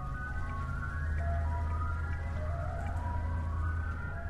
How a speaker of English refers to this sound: Ice cream trucks make their evening rounds near Our Lady of Guadalupe Monastery.